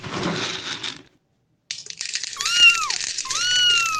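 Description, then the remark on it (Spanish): A cat meows twice in quick succession, clear, over a steady rattling, crunching noise like dry food being poured as the cat is given its food in the morning, after a brief pause of silence. “Buenos días, gatito. Toma tu comida.”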